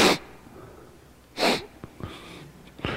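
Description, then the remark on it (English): Three short, breathy sniffs through the nose, spaced a second or so apart, with quiet pauses in between and no talking. “You sniff with your nose.”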